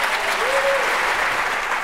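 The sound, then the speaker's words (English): A toilet flushing, heard over the teleconference live broadcast of oral arguments before the justices while a lawyer was speaking: a steady, hissing rush of water that fills the whole two seconds at an even level. A faint tone rises and falls briefly early in the flush. “On Wednesday, during the live broadcast of the oral arguments, everybody on the call, which was all of us, could clearly hear a toilet flushing as a lawyer was speaking.”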